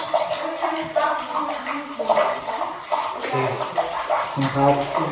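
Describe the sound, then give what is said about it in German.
Steady rushing of water flowing through pipes inside a wall, a continuous muffled gurgle with slight surges, with some voice-like murmuring mixed in. “Ja, hier gibt's Wasserbewegungen in den Wänden.”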